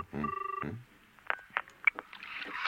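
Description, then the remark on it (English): A single short burst of an electronic telephone ring, buzzing and warbling, as a call goes through to the parents' number, followed by a few scattered clicks and faint handling noises. “The parents' number's ringing.”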